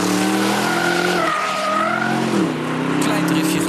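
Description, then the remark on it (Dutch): An Aston Martin DBX SUV drifts during a drive at Kroijmans, its tires squealing loudly and steadily for several seconds, a harsh whining tone that bends in pitch over an engine roar. “We waren deze week even gaan rijden bij Kroijmans. Ja. Even lekker driften.”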